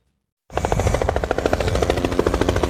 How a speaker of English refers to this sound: A helicopter swoops in low over a sugarcane plantation in Queensland to drop bait in the fight against a destructive invader.